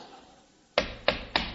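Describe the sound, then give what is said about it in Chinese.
Three sharp knocks on a door land in a quick, evenly spaced sequence after a brief quiet stretch, each one loud with a short resonant thud. “待我上前叩我门。”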